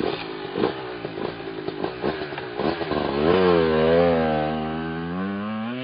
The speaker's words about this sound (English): I climb my old red motorcycle, kickstarting it.